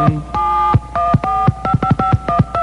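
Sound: telephone dialing tones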